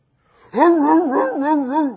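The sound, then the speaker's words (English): A man's voice imitates a dog barking during a sermon at a pulpit, a single loud, drawn-out vocal bark with a wavering, rising and falling pitch that lasts about a second and a half, with nothing else behind it. “Now, I'll bark.”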